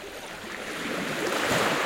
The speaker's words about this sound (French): Et c'est pour ça que j'avais choisi ce début qui illustre tout à fait ce mouvement de ressac.